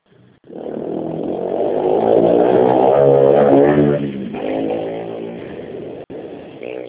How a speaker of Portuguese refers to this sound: Não sei que moto que ele usou.